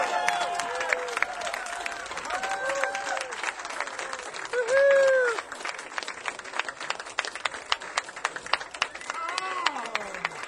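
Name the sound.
audience applause and clapping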